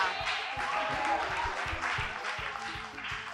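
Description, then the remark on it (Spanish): Dense audience applause for a correct quiz answer, many hands clapping in a continuous, steady roar with sharp individual claps popping through, sustained throughout. “¡Un aplauso! Correcta.”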